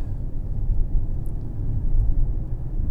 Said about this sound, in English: But when it accelerates, it certainly does accelerate nicely. Especially being such a big, heavy car.